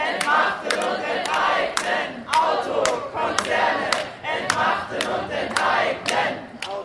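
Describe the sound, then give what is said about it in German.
A large crowd at a protest rally chants the German slogan "Auto, Konzerne, entmachten und enteignen!" in unison, loud rhythmic bursts of voices repeating several times with sharp accented beats, the phrases rising and falling together. “Und deswegen rufen wir nochmal zusammen: Auto, Konzerne, entmachten und enteignen!”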